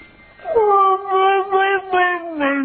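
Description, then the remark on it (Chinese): A dog named Mishka, asked to say bye-bye, makes a drawn-out, whiny, singsong vocalization in a few connected syllables that sounds like it is trying to say "bye-bye." The voice is fairly loud, with sliding pitch. “哦， 咱来听伊讲拜拜的声音。”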